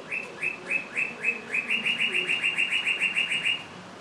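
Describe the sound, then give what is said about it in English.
A bird of unidentified species calls loudly in the courtyard in front of Tower 1, in a fast, steady series of sharp, high-pitched chirps that start spaced out and quicken into a rapid trill, over faint background noise with no talking. “We're actually sitting in the courtyard in front of Tower 1, and I'm not sure what he is, but there's a bird going off. And he's been through here a couple times. We'll see if I can catch him again. He's been tweeting very loudly.”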